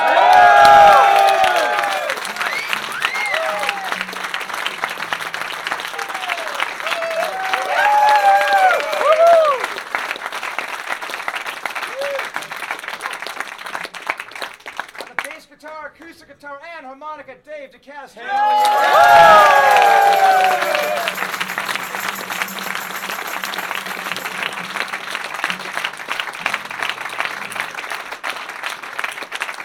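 A large crowd applauds and cheers loudly for a guitarist being introduced at a band's live show, with whistles and shouts over sustained clapping. It briefly dips while someone speaks, then the applause surges back up.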